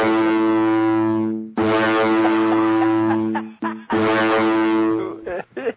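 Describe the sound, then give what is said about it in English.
The loud horn of the ocean liner Queen Elizabeth 2 (QE2) sounds a slow melody: three long, deep, brassy blasts at shifting pitches separated by brief gaps, ending in a few shorter, choppier notes. “Yeah, I was just going to say that's a Queen Mary right there.”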